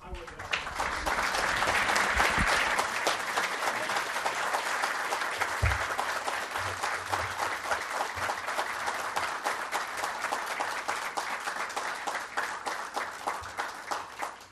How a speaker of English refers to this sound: What a great group. I was going to say, please remain in your seats and join me for a round of applause, and you already followed instructions.